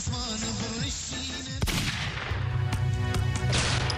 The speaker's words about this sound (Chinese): 几个月之后，科丘村枪声四起。